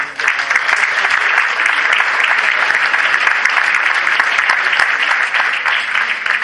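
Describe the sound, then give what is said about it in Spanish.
A crowd applauds steadily and loudly, a dense wash of many hands clapping that holds at an even level for the whole stretch without fading, as an entrepreneurs' prize from the Instituto de Fomento de la Región de Murcia is presented. “Un fuerte aplauso.”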